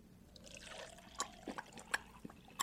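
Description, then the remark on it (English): Water pours into a thirsty dog's empty bowl in a short, quiet stream, with soft splashing and a few sharp little clinks and drips as it fills. No one speaks. “You're giving him water?”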